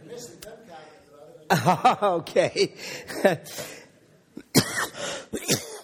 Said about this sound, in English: I'll tell you stories while the cough settles down.